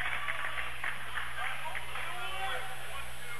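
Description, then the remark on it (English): A crowd at a women's basketball game cheers after a made bank shot and a foul, in a steady, dense roar that fills the whole few seconds, with scattered shouts rising out of the din and no clear single voice. “You hear the crowd noise.”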